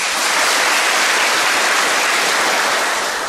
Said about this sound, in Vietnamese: Xin cảm ơn và cho một tràng pháo tay.